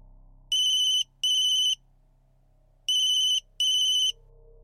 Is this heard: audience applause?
no